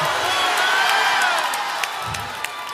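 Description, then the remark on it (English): A large crowd screams and cheers loudly and continuously, a dense wash of overlapping shrill voices and whoops filling the space, with a few sharp claps or shouts punctuating the roar. “Somebody give a scream.”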